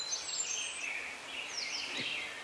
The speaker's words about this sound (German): Die Vögel zwitschern.